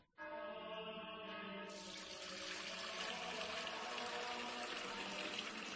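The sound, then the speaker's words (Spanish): Spring water pours steadily into a container to replace holy water, a continuous gush with a ringing, hollow resonance as the vessel fills; the flow grows brighter and fuller partway through, with no voices. “Padre Gilberto, ¿qué hace? Hermano Pedro, es que no nos quedaba agua bendita. Agua pura de manantial Fuente Umbría.”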